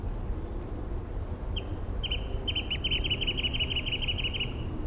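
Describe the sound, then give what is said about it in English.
A wrentit sings a run of short, high, sharp notes that quickens into a rapid bouncing trill. It is faint over a steady low rumble, with thin higher chirps scattered above. “I-7 with a wren tit in the background.”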